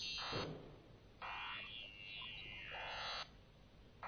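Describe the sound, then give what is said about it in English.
Loud electronic telephone key tones, piano-like, sound alone in bright buzzing bursts: a short one, then a longer sustained tone, a pause, and another starting at the end. “That's the phone, of course.”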